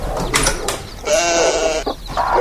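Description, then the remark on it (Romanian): A lamb bleats in a long, wavering cry with a harmonic, nasal tone, after a couple of shorter bleats, then a brief softer call at the end. “Mă duc acasă, vă las mielul și...”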